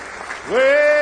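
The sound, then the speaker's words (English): A church audience claps together in praise to the Lord, a steady wash of applause, then a loud sustained tone swells up and holds, rising above the clapping. “Give the Lord a big hand clap of praise if you believe it with all your heart.”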